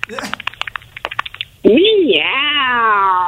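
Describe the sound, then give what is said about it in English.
A rapid run of light clicks and taps, then a loud, drawn-out meow with a rising and falling pitch, a person's voice imitating a cat. “Meow. Meow.”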